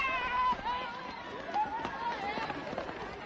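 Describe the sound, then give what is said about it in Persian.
Quick, uneven footsteps of children running in a running race patter beneath a steady wash of high, excited young voices and crowd chatter, moderately loud throughout. “بچه‌ها در حال دویدن.”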